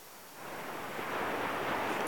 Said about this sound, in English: You sit back down on the beach, staring out to sea. And all you can hear is the sound of the waves and the sound of a voice.